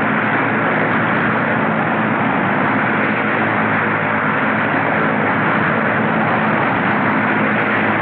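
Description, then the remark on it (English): Airplane engines roar loudly and steadily during an aerial dogfight, a biplane with an uncovered cockpit chasing a whiter, sleeker plane with a covered cockpit; a dense, unbroken drone with no pauses, no distinct bursts and no voices. “The first plane, whiter and sleeker, tries to evade its pursuer.”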